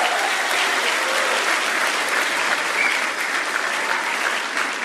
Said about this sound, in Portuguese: E eu faço questão de primeiro anunciá-lo ao nosso querido e eterno capitão, nosso querido Cafu. Receba esses aplausos de coração do nosso país.